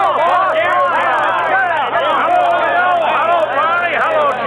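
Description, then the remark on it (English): A crowd of henchmen cheers loudly, greeting their boss as he steps off the train and waves, dozens of men's voices shouting and hollering at once in a dense, steady roar that holds at full volume for several seconds without letting up. “As he waves his big hand to the crowd, he's greeted by a loud cheer from his henchmen.”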